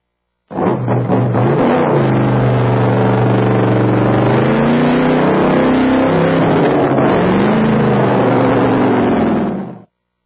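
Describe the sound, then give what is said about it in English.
A loud hot rod drag racing car engine revs hard for about nine seconds, its pitch climbing and dipping in deep, rumbling surges before cutting off abruptly. “Mainly Jesus and my hot rod. These are sensations as hard to forget as they are to ignore. Drag racing.”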